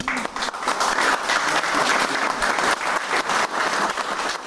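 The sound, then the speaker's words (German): An audience at an exhibition event in Langenau claps steadily, a dense, loud wash of many hands sustained throughout without pause or speech. “Einen großen Applaus.”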